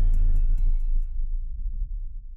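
A rapid heartbeat thumps about five times in quick succession over a deep, booming low rumble, then fades away as the rumble lingers. No one speaks.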